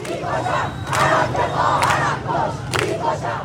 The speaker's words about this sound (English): People were yelling things like, I don't want my headscarf, and, you know, they want death to the rulers there.